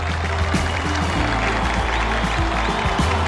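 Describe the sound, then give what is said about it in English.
A large crowd at a Rock and Roll Hall of Fame induction cheers and applauds in a steady, dense roar of clapping and voices that stays loud and unbroken throughout, with no single speaker standing out. “The audience cheers and goes wild.”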